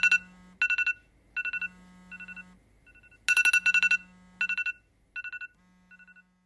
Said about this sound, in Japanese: 朝6時30分、目覚ましの音で起きる。